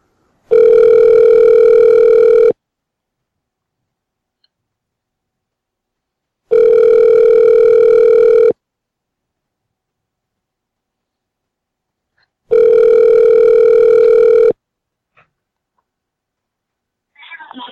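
A phone line rings out with three long, steady ringback tones, each about two seconds, separated by even pauses of silence. The tones are loud and clear, with nothing else around them.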